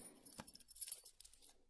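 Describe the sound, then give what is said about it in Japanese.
A small bunch of keys with a spare key jangles softly in a hand, a quick run of light metallic clinks and rattles, quiet and lasting under two seconds with no voices. “この合鍵は、まだ私が持ってていい？”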